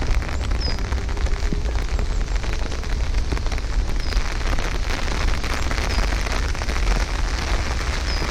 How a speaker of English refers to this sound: It's starting to drizzle.